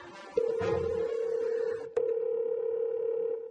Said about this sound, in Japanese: 手始めにあの人へ電話じゃ。